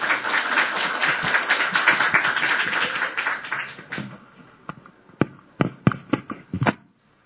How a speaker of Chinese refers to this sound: 我们给牧师一个掌声好吗？